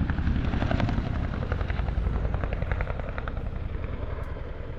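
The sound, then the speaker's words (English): A heavy helicopter with three underslung hooks roars overhead in an air show flying display, doing roller-coaster manoeuvres, its deep rotor thump pulsing rapidly and steadily beneath a loud, continuous engine whine, holding strong throughout with no voices. “It's just, there's something about that great, well, I think even its mummy wouldn't call it pretty, but that enormous, fantastic machine being thrown about the sky with such verve and vigour”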